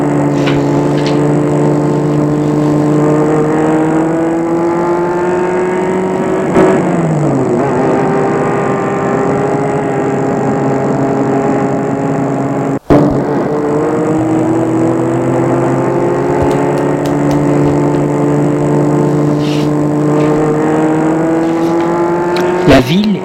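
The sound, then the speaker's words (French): A white sports car engine drones steadily, its pitch climbing and dipping as it revs and shifts through gears, with a brief sharp click midway, as the car is driven in the evening to a neighbouring town 70 km away. “Elles ont pris la voiture de sport blanche de la tante.”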